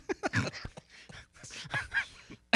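A few sharp, breathy coughs burst out, followed by softer throaty sounds and a last quick cough right at the end.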